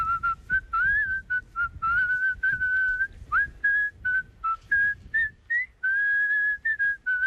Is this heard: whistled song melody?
yes